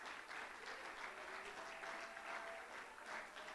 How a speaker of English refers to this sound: Can you clap your hands and can somebody give God praise?